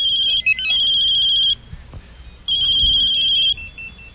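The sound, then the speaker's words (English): A cell phone ringtone, played while scrolling through the phone's ringtones, sounds in two loud, shrill electronic bursts of rapid warbling beeps, each about a second and a half long, separated by a brief pause with faint background rustling. “Each time you scroll to a new one, it rings by itself.”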